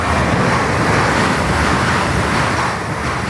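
A train rushes past on the Riedbahn line between Frankfurt am Main and Mannheim in mid-June. A loud, steady roar of wheels and rushing air stays intense throughout and eases only slightly at the very end. No voices.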